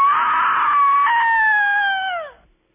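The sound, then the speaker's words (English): A single loud, shrill scream for a low-grade horror movie, held for over two seconds, unaccompanied, wavering slightly before its pitch sags and trails off at the end. “I'm into the lousy grade Z horror movie. Here's your scream.”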